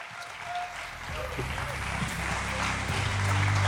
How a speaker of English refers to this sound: Round of applause for Justin Drake, everyone. Thank you.